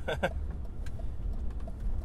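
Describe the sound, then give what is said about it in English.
Steady low rumble of a large vehicle on the road, a bus going by fairly loud, with a couple of brief bright clatters at the very start. “Pass this bus because I hate buses.”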